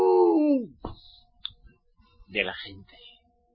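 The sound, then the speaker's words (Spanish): A loud, short howl imitated by a human voice, a sustained tone that slides downward and fades within a second, followed by brief clicks and scattered vocal sounds. “Va a haber un aullido, así como los robos. ¡Au!”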